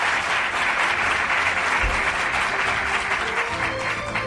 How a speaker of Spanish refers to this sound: Pues puede que sea 3 o 4 mil personas las que ya están aquí en este salón del Palacio Episcopal, en el salón de actos. ¿Quieren ustedes aplaudir para que se crean la gente que están ahí, que son millones? Muy amable.